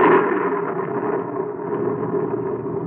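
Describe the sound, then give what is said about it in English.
Rolling thunder rumbles steadily for a few seconds, a dense, low, grinding roar that stays fairly loud throughout, without a sharp crack or any voices. “Know them now as the thunder sings its hymn to Hades, and the lightning lashes at the soul of man.”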